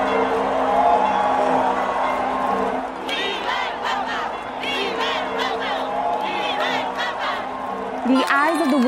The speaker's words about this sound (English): The new pontiff, clearly moved by the weight of responsibility on his shoulders and the cheers of confidence from the crowds below.